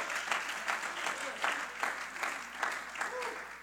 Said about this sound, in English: Oh, you ought to give thanks to the Lord and clap your hands. Amen.